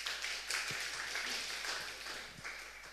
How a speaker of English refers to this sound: Clap for yourselves.